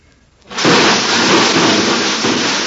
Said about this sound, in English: What was that? I didn't hear anything. I think the neighbor's dog knocked over the ash can again.